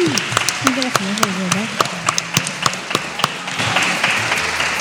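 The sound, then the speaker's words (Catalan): Audience applause for students of the Escola Miquel Utrillo, scattered, irregular claps that thicken into a denser patter near the end, with voices murmuring and calling out underneath. “Por favor, un aplaudiment.”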